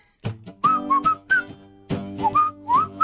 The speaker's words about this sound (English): I'm going to whistle this one because I think that'll give you, you know, a little bit of help here,